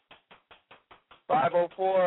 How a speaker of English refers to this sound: It sounds like you're cooking.